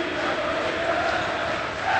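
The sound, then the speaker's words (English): A large arena crowd roars steadily and loudly, a dense wash of cheering and shouting with a few whistles cutting through near the end, as the final seconds tick away in a Moeller Crusaders basketball game with the score 63-27. “And you can hear the crowd. I'll let them tell you the story of this one.”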